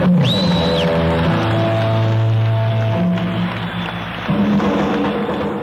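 A concert audience applauds and cheers in a steady, dense roar, with a shrill whistle near the start and low sustained tones humming underneath throughout.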